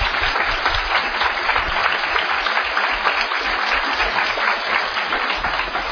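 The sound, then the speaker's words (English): Steady, sustained applause from a sizable audience honoring active-duty military members standing in the room, a dense wash of clapping that holds at an even, fairly loud level throughout without any voices rising above it. “All right, we would like to give you a round of applause.”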